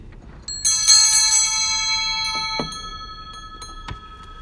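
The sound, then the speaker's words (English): A bell is struck and rings out with a bright, shimmering tone whose layered overtones hang in the air and slowly fade, with faint knocks and rustles underneath. “The sound made by that bell is a natural effect.”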